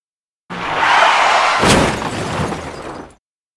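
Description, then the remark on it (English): A loud jeep crash as it goes off the road: a rushing, roaring noise builds, then a sharp crunching impact hits, followed by a couple of seconds of rough rumbling and scraping before it stops abruptly. No one speaks. “The jeep goes off the road.”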